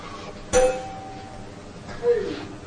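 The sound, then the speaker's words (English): A bell is struck twice, about a second and a half apart, each ding ringing out clearly and fading slowly against a quiet background. “Is that a fire alarm? We ask it. Coffee bell?”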